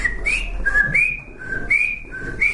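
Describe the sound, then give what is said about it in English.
A person whistles a lively bird-like chirping pattern, alternating short high and slightly lower notes in a quick repeating rhythm, fairly loud, with no talking. “For a while the bird was okay because he just had a big meal at the pet store and he was, you know, chirping away.”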